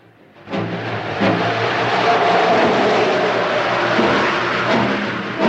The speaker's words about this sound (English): The snow billows across the tracks. An engine shoots through points.